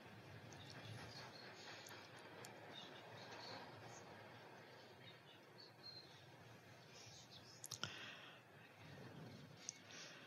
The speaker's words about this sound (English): Oh, that's a glory train, right? There's a glory train.